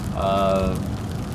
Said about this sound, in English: As you can hear, it is raining, but it's fine. It's not, you know, there's still got good visibility.